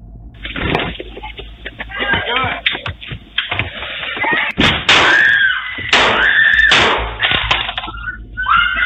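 Three sharp, loud gunshots fired from a gun through the glass of a door ring out in quick succession with glass shattering, over muffled background voices and noise on a tinny, band-limited recording.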